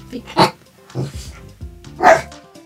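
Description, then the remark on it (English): A dog named Carrot Riddle Rial barks four times in an uneven rhythm, sharp yaps with brief pauses between them, the first and last barks loudest, with no one talking. “with barking by Carrot Riddle Rial.”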